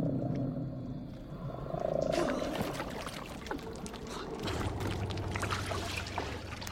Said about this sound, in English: Another crawler skulks on a ledge above them. It turns around and defecates over the side. The crawler slumps away.